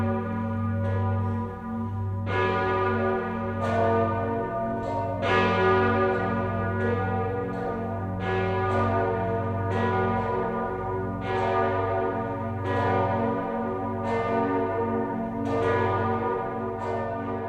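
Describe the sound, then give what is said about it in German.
Church bells of Speyer peal loudly and steadily across the Rhine, with repeated strikes about every second and a half, their deep tones ringing and overlapping into a continuous resonant wash with no voices. “Von Speyer schlagen die Glocken eine klingende Brücke über den Rhein.”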